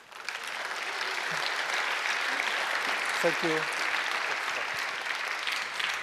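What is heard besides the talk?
audience applause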